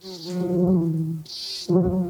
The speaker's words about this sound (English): On a summer day, a field of fireweed is buzzing with a swarm of bumblebees.